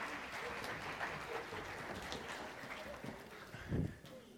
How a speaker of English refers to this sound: Thanks, guys. That's great. Give them a little clap. It's a great job. Thank you very much.